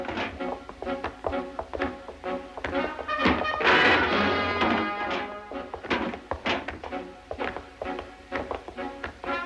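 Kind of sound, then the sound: impact, door being smashed down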